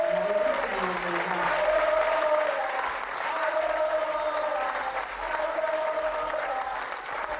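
A large audience applauds steadily, a dense, continuous roar of clapping that holds loud throughout, with crowd voices rising in sustained tones, like chanting, over the clapping.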